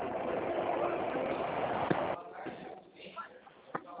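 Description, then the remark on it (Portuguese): Muffled bus engine rumble heard over a narrow phone line from a caller riding inside a bus, loud and steady for about two seconds, then quieter with scattered knocks and faint voices in the background. “Oi, desculpa, não te ouvi direito, que eu tô dentro de um ônibus.”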